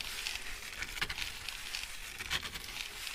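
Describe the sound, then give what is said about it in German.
Strong wind blows as a heavy thunderstorm sets in, in a steady, airy rush with a hissing, rustling texture and a few brief crackling bursts, moderately quiet and continuous, with no voices. “Zuerst kam ein kräftiger Wind.”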